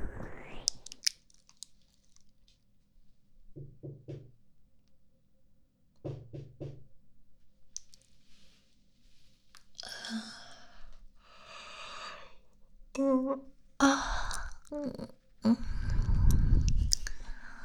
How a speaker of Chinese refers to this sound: 大周末的啊，谁这么早敲门啊？